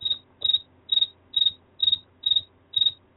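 Crickets chirp in a steady, even rhythm, seven high-pitched trilling bursts spaced about half a second apart, heard alone over a faint low background hum.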